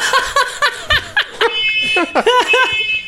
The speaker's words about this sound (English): What the hell is that? It's a fucking smoke detector. Oh my God.